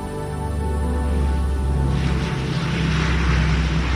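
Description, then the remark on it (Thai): A steady, heavy engine roar builds into a broad rushing noise halfway through as a large airplane takes off from Phnom Penh bound for Thailand on a hot, sultry April afternoon in 1995, loud and continuous with a low droning hum underneath. “เครื่องบินลำใหญ่ได้ทะยานขึ้นจากพนมเปญมุ่งสู่ประเทศไทย”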